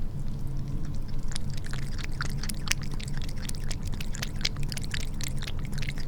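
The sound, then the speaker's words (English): A cat laps water from its cup on the floor, a quick series of small wet licks and splashes in an uneven, steady rhythm over a low background hum. “Now we're gonna listen to my cat drink.”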